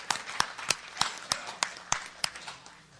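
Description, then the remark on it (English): Applause at the CCB annual convention for silver sponsor Vanda Pharmaceuticals, made of crisp, evenly spaced hand claps, about ten in three seconds, keeping a steady rhythm at a fairly soft level with no voices over it. “Let's hear a warm round of applause for Vanda Pharmaceuticals, who is one of our silver sponsors.”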